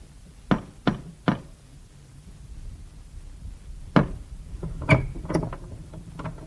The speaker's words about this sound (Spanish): La niña llegó hasta la puerta y llamó.